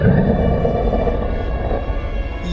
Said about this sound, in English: The monstrous, evil Richter Beast. Sorry, the what? The Richter Beast. When this giant, nasty fiend becomes full of rage, its mighty roar shakes the very ground you stand on.